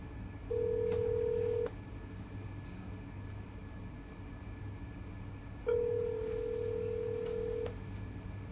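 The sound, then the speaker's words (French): Two long, steady telephone ring tones sound a few seconds apart as a father calls his daughter, like a call ringing through on the line, over a constant low rumble. No one speaks. “Ok, je l'appelle.”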